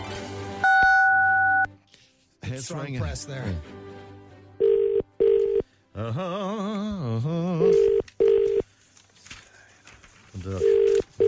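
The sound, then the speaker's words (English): A telephone ringback tone heard down a phone line on a call from Today FM to the Crown Plaza in Dundalk, repeating in short double bursts at steady intervals, with a keypad beep near the start and warbling, voice-like sounds filling the gaps between rings. “It's ringing.”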